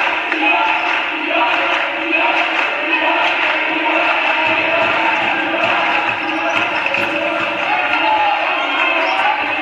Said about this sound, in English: Mears, layup, good. And Briarwood has cut the Aggies' seven-point lead to just one. Franklin over to Crow. The Briarwood crowd getting into the ballgame.